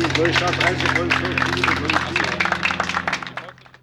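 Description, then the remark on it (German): Steady applause from a crowd at a monument at the end of a two-hour guided tour by a regional history working group, a dense patter of many hands clapping with voices talking underneath, fading out over the final second. “Ja, und kurz nach dem Applaus konnte man 2 ältere Männer lautstark über die Verschandelung des Denkmals schimpfen hören, die im Hintergrund des Denkmals standen.”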